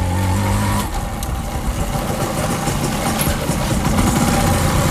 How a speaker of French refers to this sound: Ouais, donc maintenant, nous sommes arrivés au sein de conférence internationale. Mais je vais garer ma moto au parking.